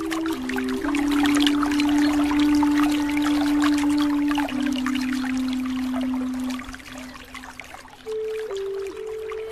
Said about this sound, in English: Do you hear that? What? Water.